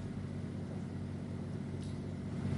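A steady, low engine drone hums continuously for a few seconds, a motor running at an even pitch with a faint rise in level toward the end and no voices.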